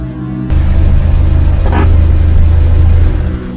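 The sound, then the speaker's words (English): A car engine rumbles in suddenly and holds a deep, steady idle, then eases off slightly as the car comes to a stop in front. No one speaks. “You hear that? Car stopping in front is him, Wayne.”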